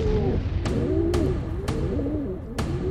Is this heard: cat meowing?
no